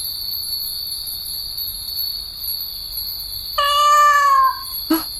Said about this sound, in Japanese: 猫だ。おーい。君は一人で何してたんだい。寂しくないの？